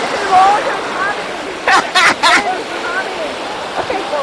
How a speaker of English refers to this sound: Here comes the wave. Okay. I don't care. It's okay. Okay, everybody. I'm gonna listen to these waves.